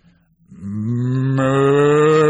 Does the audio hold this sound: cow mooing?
yes